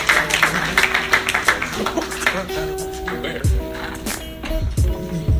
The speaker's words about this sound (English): Let's get a big round of applause going for your next comedian,